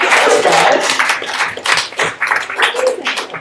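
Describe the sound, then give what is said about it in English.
A crowd claps and cheers in sustained applause for a new band from Wellington, dense and fairly loud, with some voices mixed into the noise of many hands. “Please give a huge round of applause for Wellington's, thank you, Wellington's hottest new band, second hottest,”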